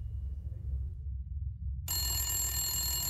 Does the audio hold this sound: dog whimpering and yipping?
no